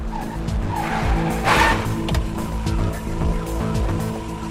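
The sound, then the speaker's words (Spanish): A police patrol car's engine rumbles steadily, then the tires give a short, harsh skid as it brakes to a stop, with the engine idling low afterward. “La policía se detiene.”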